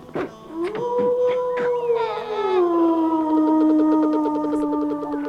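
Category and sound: animal, wolf howling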